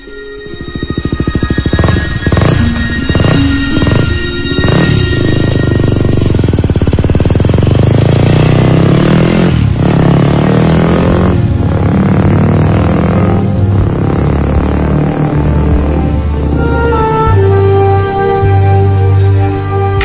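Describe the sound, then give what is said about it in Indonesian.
A motorcycle engine roars, revving repeatedly with rising and falling pitch, then settles into a steady, loud drone as it rides from Bandung to Jakarta on a fine morning. No voices are heard. “Katanya sekali-kali coba ke Jakarta pakai motor.”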